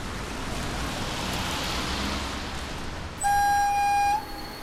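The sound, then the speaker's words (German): A steady, broad rushing rumble of an Intercity Express high-speed train to Berlin running on rails, then a loud, sustained horn blast for about a second near the end before the rumble resumes. “Sehr geehrte Fahrgäste, wir begrüßen Sie an Bord des Intercity Express nach Berlin.”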